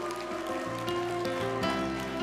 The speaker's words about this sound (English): Can we give the Lord a hand clap of praise in the house?